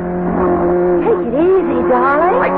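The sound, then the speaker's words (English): A car engine roars loudly and continuously during a wild ride, its pitch rising and falling as it revs at speed over a low, steady rumble, with a brief high squeal near the end. “I took Laura with me to the car. The excuse for our wild ride”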